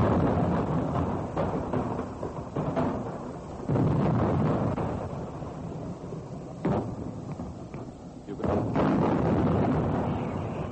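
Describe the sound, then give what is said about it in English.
A series of dull, low booms rolls in one after another as artillery shells fall on a battalion of Chinese troops. Each is a muffled thud with a long rumbling tail, echoing among the hills, over a constant low background roar. No voices are heard. “And now I can hear the sounds of the shells falling coming back in a series of dull crumps.”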